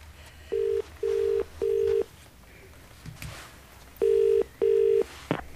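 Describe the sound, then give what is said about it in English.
A telephone call being placed and ringing: five clear, steady electronic tones, three in quick succession, a short pause, then two more, ending with a faint click. No one speaks. “Do you mind if I make a phone call before I go out in the cold?”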